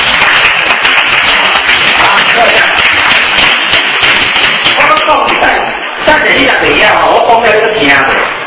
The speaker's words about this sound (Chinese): 好，然后跟这两组拍手一下。